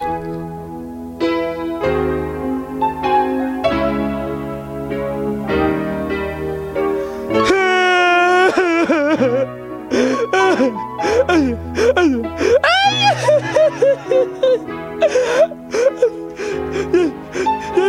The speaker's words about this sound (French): est-ce que je peux dire un petit peu que il n'est pas très content? C'est ça. C'est un petit être malheureux. Puis il pleure.